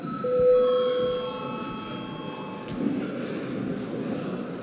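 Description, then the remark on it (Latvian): A parliament chamber bell, rung at the presiding officer's request before the deputies' registration, rings with a steady, unbroken electric tone for about two and a half seconds, then cuts off, leaving a low rumble of background murmur. “Lūdzu zvanu!”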